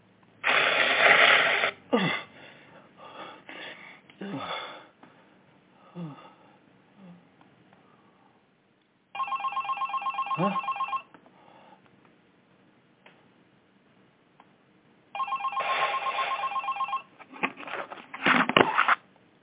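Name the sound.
cell phone ringing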